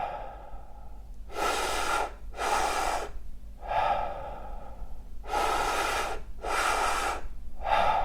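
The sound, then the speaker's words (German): Deep, forceful breathwork breaths drawn into the belly and chest and then let out, done lying down, about six loud breathy surges in a steady rhythm with brief pauses between, and no talking. “Okay, in den Bauch, in die Brust und loslassen.”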